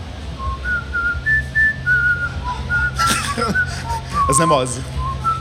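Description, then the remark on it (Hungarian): Someone whistles a short, clear melody imitating the end-of-cycle jingle of their own washing machine: sustained high notes stepping up and down, briefly interrupted midway by voices and a burst of noise. “Ugyanis ez a mosógépemnek a végszava, és hogy oly sokszor felmerült már bennem, hogy mi a faszomnak tesznek a mosógépekbe egy egész ilyen Schumann szimfóniát.”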